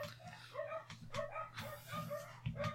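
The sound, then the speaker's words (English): A neighbor's dog near the fence and the household dogs yap and bark back at it in quick, overlapping bursts, a rapid back-and-forth of short sharp barks with a steady low hum underneath. “It's a neighbor's dog. It gets close to the fence, they're yapping, and my dogs start going at it.”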